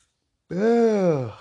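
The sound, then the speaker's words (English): A single drawn-out voiced yawn that begins abruptly after a brief silence, swells with a rising then slowly falling tone, and trails off after about a second, with no talking around it. “I get that fucking yawn in here.”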